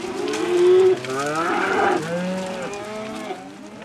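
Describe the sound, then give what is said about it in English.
Twenty-five cows moo in overlapping, drawn-out calls, one loud low moo near the start followed by others at varied pitches, continuous like a herd. “There are 25 cows.”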